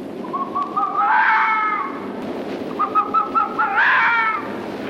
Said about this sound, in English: Despite a survey carried out by a student which claimed the possibility of hundreds of foxes here, many doubted their presence as, in the spring, vixens searching for a mate make a very distinctive noise.